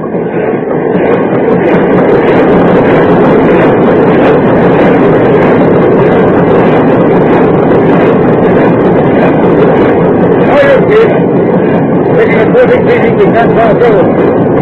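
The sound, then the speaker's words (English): The steamship Jeanette's engines drone at full steam in a loud, unbroken rumble as the ship rams, squeezes, backs and butts her way through ice, heavy and low with a rough churning texture, while faint higher scrapes and a brief tonal rise break through near the end. “The next 3 hours, we nearly tore the engines off their bed plates and the smoking thrust block off its foundation while the Jeanette rammed, squeezed, backed, and butted her way through the ice.”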